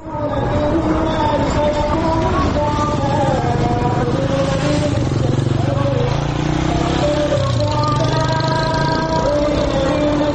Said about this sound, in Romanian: Pe străzile Jakartei, zgomotul motocicletelor omniprezente se amestecă cu chemările la rugăciune ale muezinului. Dintr-una din cele 800.000 de moschei ale cele mai populate țări musulmane din lume, Indonezia.